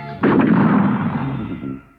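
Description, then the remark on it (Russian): An explosion blows up a bridge over a river: a single loud blast bursts out suddenly, then rolls on as a heavy, crackling rumble that slowly fades over about two seconds. No one speaks. “На всякий случай гениальный сыщик решил взорвать за собой мост через речку.”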